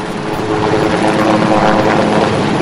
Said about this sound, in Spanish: El sonido es este, el de las aspas del helicóptero que lo trasladó al cementerio del Pardo